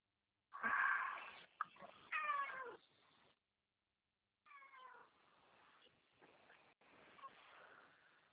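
A cat meows loudly, a few drawn-out, wavering cries in quick succession, then a pause of silence before more quieter, strained meows follow.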